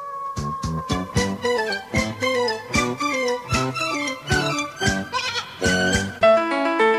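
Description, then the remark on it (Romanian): A flock of sheep and lambs bleats continuously and loudly, with many wavering, overlapping calls in quick succession, and no talking. “Sunt prietenii voștri, i-am invitat și pe ei la Universul copilăriei.”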